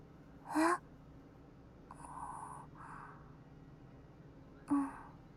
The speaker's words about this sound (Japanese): お兄ちゃんのあくびの伝染力すごい。